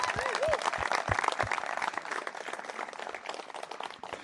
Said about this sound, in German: Das sind die Leute und ich glaube, wir können nochmal klatschen für die.